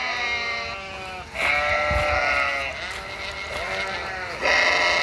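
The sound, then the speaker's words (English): A wandering flock of sheep in grassy meadows within a city bleating over one another in a steady, overlapping chorus, with several animals calling loudly and others fainter behind them. “There's even a wandering flock of sheep.”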